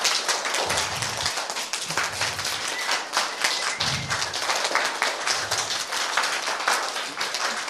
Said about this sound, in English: And let that shaking of the hands turn into wind around them, move in a circle around them and snap and clap and create wind, sound, aliveness, vitality.